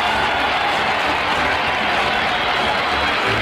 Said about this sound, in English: Listen to the crowd. Listen.